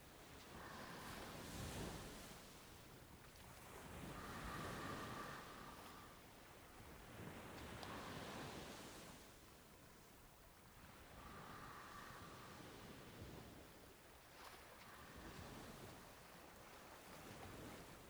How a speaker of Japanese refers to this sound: 夜の海はさざ波の音色で満ちているのに、妙に静かですよね。